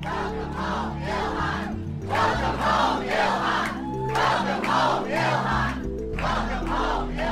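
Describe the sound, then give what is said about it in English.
A large crowd cheers and shouts in loud, rhythmic surges, like a repeated chant rising and falling about once a second, over a steady low hum, greeting Congresswoman Omar on Thursday afternoon as she returns to Minnesota. “On Thursday afternoon, a large crowd greeted Congresswoman Omar as she returned to Minnesota.”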